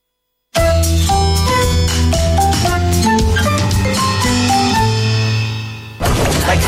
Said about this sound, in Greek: Αυτή η μουσική πάντα με βάζει σε mood για κάτι σούπερ.